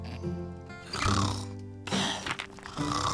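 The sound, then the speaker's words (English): Loud, rumbling snores from Burple, a cartoon dragon in DreamWorks Dragons: Rescue Riders, sleeping on his back in the roost at night and spitting out pebbles. Two long drawn-out breaths with a gravelly, growling texture over a soft musical background. “Burple snores on his back, spitting out pebbles as Summer opens her eyes and stretches.”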